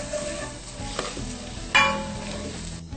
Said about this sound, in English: The pumpkin. I think it's ready to puree. All right, I'm going to start putting it right here in the blender. Okay. And since I'm going to use cashew cream, I don't really need to wash it out. Right. Just put it directly in there.